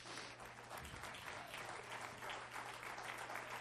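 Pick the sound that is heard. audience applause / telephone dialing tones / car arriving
audience applause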